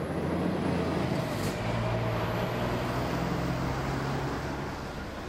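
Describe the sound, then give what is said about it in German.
Dense, steady road traffic roars on a heavily used bypass road in Lüdenscheid, Germany, carrying detour traffic from a motorway closure, with deep engine drones of heavy trucks and buses rolling past, forming a continuous loud rumble with no voices. “Das sind zwei wirklich stark befahrene Umgehungsstraßen hier durch die Autobahnsperrung.”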